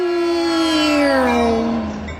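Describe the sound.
A voice imitates a passing train to illustrate the Doppler effect, holding a steady tone that then slides smoothly downward in pitch as it fades, mimicking a train's drop in pitch as it goes by.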